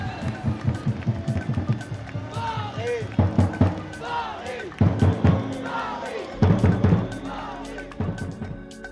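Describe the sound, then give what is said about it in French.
The Titis de l'Ovalie, an official supporters' group of the Stade Français rugby club, beat drums in a steady, pounding rhythm while a crowd chants and shouts along, loud and energetic, with whistles and cheers rising over the beat. “C'était les tambours et la passion des Titis de l'Ovalie, l'un des groupes officiels de supporters du Stade français dans Peñas y Bandas.”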